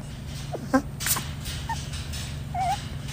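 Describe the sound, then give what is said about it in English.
A bat whimpers as it yawns: a few brief, high, wavering squeaks and a short whine, fairly soft, over a steady low background hum. “It's just a little whimper.”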